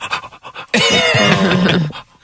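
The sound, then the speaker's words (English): Quick, rhythmic breathy pants like a dog's, apparently voiced by a person, give way to a loud, sustained strained vocal sound. No words are spoken. “The dog's just like...”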